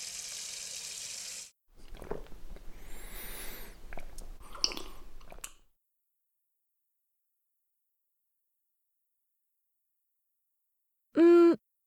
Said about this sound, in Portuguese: Olha, dá-me um segundo para beber um pouco de água aqui na fonte.